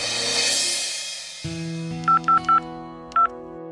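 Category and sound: signal or alarm, telephone keypad dialing tones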